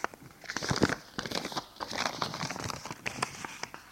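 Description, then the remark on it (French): A crumpled white sheet of paper with writing on it, found at the back of a shelf, being smoothed out: a steady run of crisp crinkles and rustles with small sharp crackles, continuous for several seconds with no voices. “Il le défroisse.”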